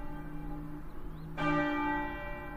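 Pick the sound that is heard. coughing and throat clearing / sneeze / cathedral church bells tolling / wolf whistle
cathedral church bells tolling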